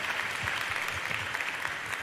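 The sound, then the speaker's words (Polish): Steady audience applause for Michał Szafrański, a dense wash of many hands clapping at a fairly even, sustained level throughout, with no voices standing out. “Michał Szafrański, wielkie brawa. Brawa, brawa, brawa.”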